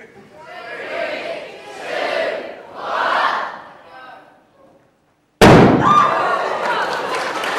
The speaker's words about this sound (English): I'm going to put a flame to this balloon, and hopefully the hydrogen will begin to mix with oxygen in the air, and it should go bang. You might just hear it.